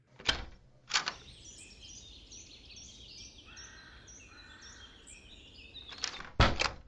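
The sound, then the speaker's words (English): A door at UDH clunks open as someone looks outside for more activity, letting in a steady wash of birds chirping outdoors, then after a few seconds it swings shut with a couple of solid thuds. No one speaks. “I'll take a look outside the door and see if there's any more activity.”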